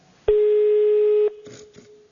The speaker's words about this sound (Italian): Vediamo, può darsi anche che sia un po' distante dal telefono. Cioè, oh, suona, vai, rispondi.